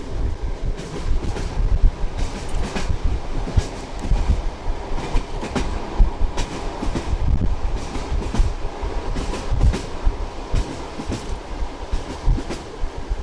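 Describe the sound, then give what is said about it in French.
A train rumbles steadily along the rails, heard from its 15th and last car, its low roar broken by repeated clicks and clacks of the wheels over track joints, with no voices. “Nous autres, on est dans le 15e wagon.”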